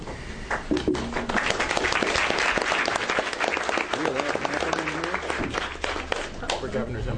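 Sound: audience applause and clapping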